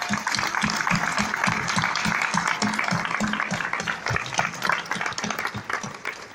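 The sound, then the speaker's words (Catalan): A crowd at a town festival (festa major) event applauds steadily for an off-stage voice, many hands clapping in a dense, continuous patter at an even loudness for several seconds, with some voices mixed in underneath. “aplaudiment per aquesta veu en off que hem sentit.”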